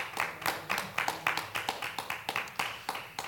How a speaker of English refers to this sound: Did y'all enjoy this teaching? Amen. Clap your hands. Yep.